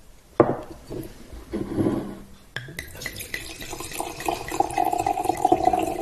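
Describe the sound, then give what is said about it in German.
A Klassik 2020 Austrian Qualitätswein from hutter-wein.at is poured into a glass: a couple of light knocks and clinks, then a steady gurgling stream whose ringing tone gradually rises as the glass fills. “Und allein deshalb muss man immer auch nochmal live einschenken.”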